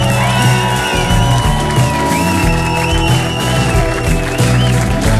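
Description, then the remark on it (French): Loud, sustained applause and cheering from a large crowd, mixed with steady music playing at the same time, filling the whole moment without pause, at an evening show in a large RTL studio. “Et il applaudit très fort, mon ami breton”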